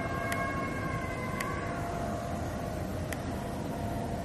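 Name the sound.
coyotes or wolves howling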